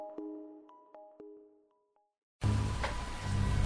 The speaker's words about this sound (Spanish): Recuerdo que llovía intensamente.